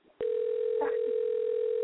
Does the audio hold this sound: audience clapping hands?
no